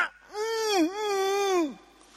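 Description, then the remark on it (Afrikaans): A single drawn-out, high vocal shriek of a tennis player grunting and shrieking on the court, wavering with a brief dip midway before sliding down at the end; loud and alone, with no talking. “Dit was nog die lekker ou dae voor hulle so erg gekreun en geskree op die baan.”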